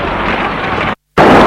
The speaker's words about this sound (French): Il y a des explosions de gaz, d'eau.